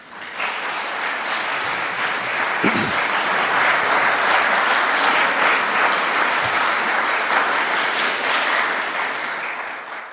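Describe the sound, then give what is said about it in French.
An audience at the official opening of a colloquium of historians applauds steadily for about ten seconds, a dense, even wash of many hands clapping that holds at full strength throughout, with no voices over it. “Je voudrais qu'on vous applaudisse.”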